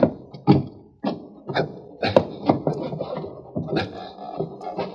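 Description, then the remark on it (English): A heavy wooden trap door is shoved and forced open, with a series of irregular thumps and scraping knocks over several seconds, fairly loud. “I'm going to try to open the trap door.”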